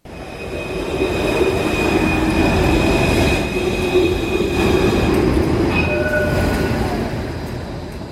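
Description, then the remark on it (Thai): A Melbourne tram or train rumbles steadily along the rails, with a low roar, faint wheel squeal and high metallic tones sustained throughout, no voices. “รถห้างรถไฟและรถประจำทางของเมืองเมลเบิร์นช่วยให้หลายล้านคนเดินทางในเมืองที่มีคนอาศัยอยู่หลายล้านในทุกๆมื้อ”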